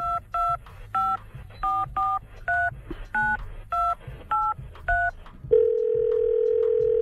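A rapid sequence of about ten telephone keypad tones as a number is dialed to call someone, each a short dual-pitched beep in steady rhythm, followed by a continuous ringing tone on the line, clear with no voices.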